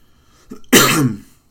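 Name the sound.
cough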